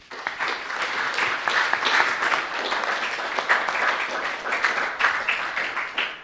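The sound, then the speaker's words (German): Steady applause from an audience as thanks for help with social media support, a dense wash of many hands clapping at an even, fairly loud level for several seconds before tapering off at the end. “Großen Applaus.”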